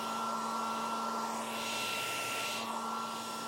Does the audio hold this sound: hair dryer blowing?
yes